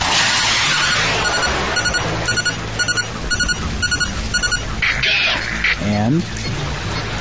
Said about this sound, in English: And you can hear the helicopter exploding in the distance.